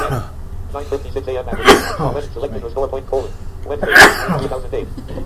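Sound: sneeze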